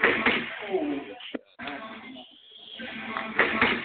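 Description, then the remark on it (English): A single sharp smack of a punch landing on a face cuts through a muffled, noisy background of voices and movement, followed by a brief hush before the chatter resumes. “Camera work wasn't the best, but you could obviously tell that I hit him in the face.”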